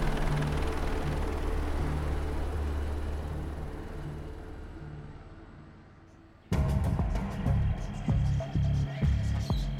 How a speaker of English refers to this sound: What is that? Helicopters? They're all landing on the beach.